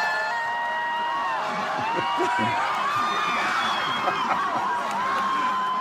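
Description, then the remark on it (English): A large crowd outside a stadium on Lansdowne Street screams and cheers continuously, high excited voices overlapping in a dense, steady wall of shrieks with chatter and shouts mixed underneath. “Why are these people screaming?”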